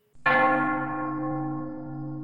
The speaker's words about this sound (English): Meanwhile, beneath the deck of the Uhuru, the strong arms of Daisy and Fuentes move to give Dref his final rites by ringing the heart bell.